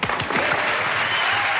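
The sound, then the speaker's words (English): Steady applause from a group fills the moment, a dense, even wash of many hands clapping at once, loud, with no voices over it. “Okay, cue the clap now.”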